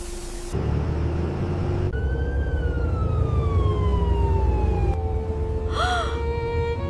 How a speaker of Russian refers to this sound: Ну вот, следующий автобус. Поедем?